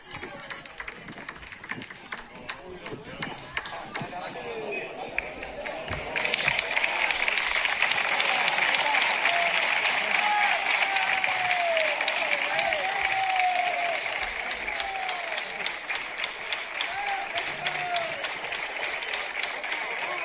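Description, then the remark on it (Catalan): A stadium crowd in the stands applauds coach Pacheta in a dense, continuous wash of clapping that swells sharply after a few seconds and stays loud, with scattered voices and shouts mixed into the crowd noise. “Bueno, pues ambient en la grada, aplaudiments per a Pacheta.”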